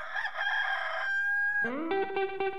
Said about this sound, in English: Hey, listen to that old rooster.